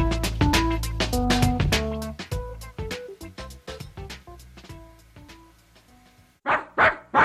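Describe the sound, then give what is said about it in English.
A dog in Pittsburgh barks three times, loud, in quick succession at the end, after a stretch of rhythmic, tonal sounds with no one speaking. “Dog in Pittsburgh, WRCT.”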